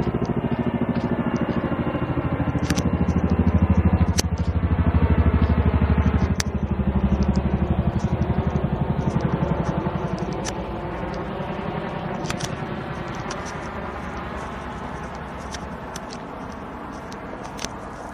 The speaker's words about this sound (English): An army helicopter.